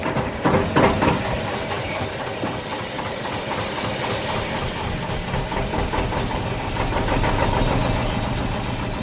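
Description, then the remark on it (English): A boat engine drones steadily as the boat travels past mangrove swamps, a loud, continuous low rumble with a rhythmic chugging texture that barely changes over the whole stretch, with no voices. “As the boat runs, the air will be flowing.”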